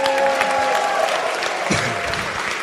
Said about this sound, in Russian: Давайте подарим большие аплодисменты.